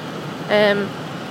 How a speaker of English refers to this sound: I know you can't hear it now because of the heater, so...